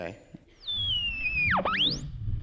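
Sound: radio dial being tuned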